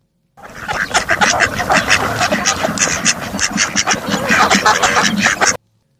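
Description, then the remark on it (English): A male mallard duck calls in a steady run of short, raspy, reedy notes for about five seconds, fairly loud, with no talking over it. “And that is the very different sounding male mallard. Poor quackless fellow.”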